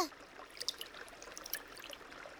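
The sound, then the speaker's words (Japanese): Water flowing steadily in a cold, shallow river high up in the mountains, a soft continuous rush with bright trickling and bubbling splashes, heard alone at a gentle, fairly quiet level. “山の上の方にある川は冷たいんだよ。”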